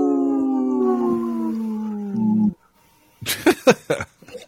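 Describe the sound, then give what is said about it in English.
A wolf's long, steady howl with a slowly falling pitch holds for about two seconds and cuts off, followed after a pause by several short, sharp bursts of sound. “brought to you by Howling for Wolves, protecting wolves for future generations. Howl.”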